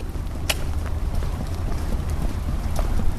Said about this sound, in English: It's a mix of snow and wet rain falling outside of the Brampton Superior Courthouse on the morning of Cheyenne's sentencing.